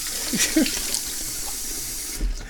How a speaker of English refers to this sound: I'm standing in front of my kitchen sink, washing my teacup, because there's kitty fluff in it.